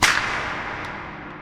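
whip crack

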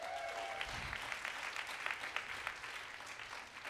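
audience clapping and applause

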